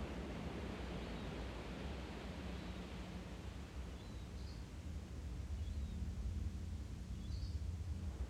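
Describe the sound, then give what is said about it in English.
A steady wash of ocean surf rolls continuously up a beach, swelling gently toward the end, with a couple of faint bird chirps and no voices. “Breathing in as the wave rolls up the beach, breathing out as the wave slides back down into the ocean.”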